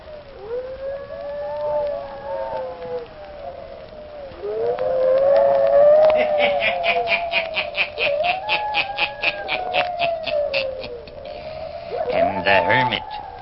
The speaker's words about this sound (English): Listen in again next week for my hounds howling.